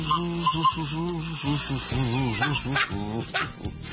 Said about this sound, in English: Yesterday was kazoo day, and I found my kazoo. This is a sort of whistling kazoo.